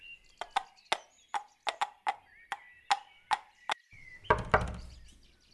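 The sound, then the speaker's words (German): A series of sharp knocks on the wooden door of an old house in a forest, about a dozen in uneven clusters, followed by a louder, more muffled thump or two at the end. “Niemand da? Ich klopfe nochmal.”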